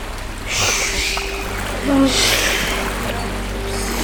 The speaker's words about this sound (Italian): E adesso il nostro piccione Pichons finalmente si ritrova con i piedi bagnati dalle onde del mare. Rumore del mare?